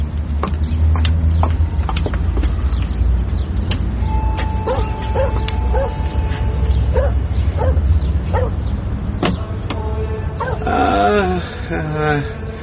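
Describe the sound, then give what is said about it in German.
A dog left behind at a villa barks repeatedly and yips, with whimpering whines toward the end, over a steady low background rumble. “Haben Sie gedacht, ich lasse Ihren Hund verhungern?”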